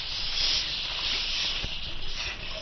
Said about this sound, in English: I think I hear steam escaping.